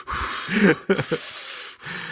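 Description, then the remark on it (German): Airy breathing right against a microphone that two people share while recording: a few noisy exhales and quick snorting intakes over about two seconds, with a steady breathy hiss between them and no talking. “man hört mich immer atmen, aber ich finde, man hört mich gar nicht atmen.”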